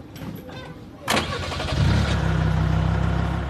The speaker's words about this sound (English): Soldiers gather to receive their orders and duties for the day, then head to the convoy. Lorries and all-terrain vehicles then thunder away to maneuver.